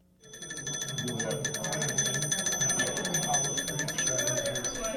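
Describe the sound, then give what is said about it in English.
Early 20th century telephone bells ring continuously in a rapid, metallic trill with bright high overtones, a little metal ball clanking really fast in each, sustained for several seconds over a murmur of people talking, at a telephone history mini-exhibition in the Juneau Douglas City Museum, Juneau, Alaska, on Friday night. “Sounds of early 20th century phones filled the Juneau Douglas City Museum on Friday night.”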